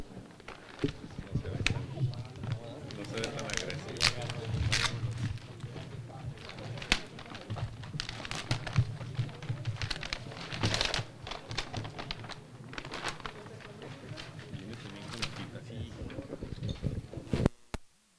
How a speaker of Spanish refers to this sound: Aperturamos sobre de distribuidora de fármacos y fragancias SADCB, que contiene dos sobres, uno de propuesta técnica y otro de propuesta económica.